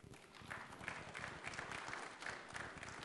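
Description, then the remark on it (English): An audience breaks into applause, many hands clapping in a dense, steady patter that holds at an even level for about three seconds with no voices over it. “I can't figure out what gets me claps and what doesn't.”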